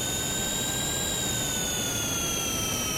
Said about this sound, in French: Là, j'utilise des accords pour avoir justement quelque chose d'un peu plus joli que juste une turbine. Donc là, c'est une turbine d'avion par exemple et moi, je vais l'enrichir avec des harmoniques. Là, je n'ai que des harmoniques.